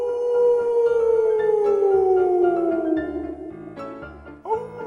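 A long, mournful wolf howl slides slowly downward in pitch for several seconds, then a fresh howl rises again near the end, loud and clear with no voices present.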